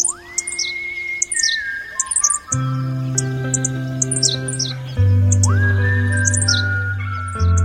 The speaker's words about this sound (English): And the next year, 8, and the next year, 22, and now the place is jumping with henslow sparrow. So it's a case of an endangered bird restarting itself just because it had the habitat to do it.